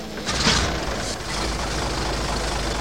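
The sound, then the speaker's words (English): A vintage 1926 Maxwell car engine runs with a steady, low mechanical rumble, opening with a brief louder rush of noise before settling into an even idle. No one speaks. “A 26 Maxwell? Sure. Hop in and I'll give you a little demonstration.”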